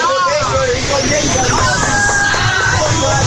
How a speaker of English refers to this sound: Pretty big crowd here today. They got a lot of bleachers around this ballpark, and most of them are at least half, if not three quarters full. On a dreary, drizzly day.